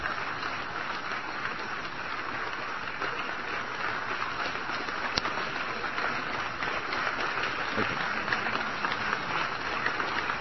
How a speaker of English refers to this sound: Well, I like that part. They clap some.